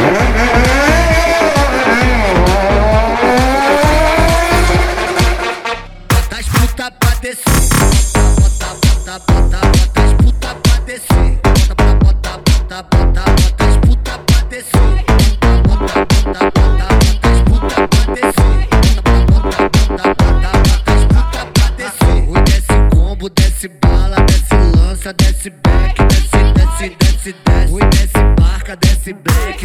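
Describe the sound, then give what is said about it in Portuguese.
Motorcycle engines rev loudly, their pitch rising and falling over the first few seconds, then a hard, steady pounding beat takes over with throttle blasts punched in rhythmically throughout. “É muita melodia. Aceleradas da Serra, Moto Grupo.”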